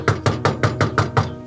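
A quick, steady series of seven firm knocks on a door, fairly loud and evenly spaced, with no voices; the person knocking holds a microphone while a camera rolls behind.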